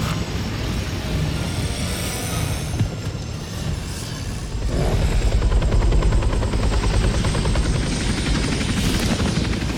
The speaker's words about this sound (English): What is that? A helicopter? They must have heard Arnold say, "Get back to the chopper!"